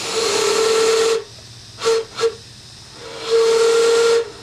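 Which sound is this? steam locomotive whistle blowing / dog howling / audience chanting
steam locomotive whistle blowing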